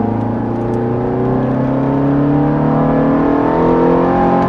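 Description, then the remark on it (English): A Ferrari engine accelerates hard on a track, its loud droning note climbing steadily in pitch for several seconds with no break, no voices heard over it. “But how can you be responsible with a car that's like a toy?”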